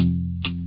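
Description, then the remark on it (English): A classic 1980s hit stripped back to its bass guitar and drums on a radio station: a deep, sustained bass guitar line hums steadily while sharp drum hits crack in at a quick, regular pulse, three strikes in under a second, with no voices. “The bass guitar and the drums, they sound like that.”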